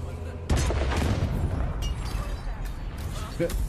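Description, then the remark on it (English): A video game cannon fires with a sudden heavy boom, then a dense, loud rumble lingers for several seconds, broken by a few more thudding blasts. “Or maybe you want to just fire a cannon at him.”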